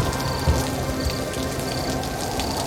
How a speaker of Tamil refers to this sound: ஒரு நாள் பலத்த மழை, காற்று வேற பலமா வீசுது.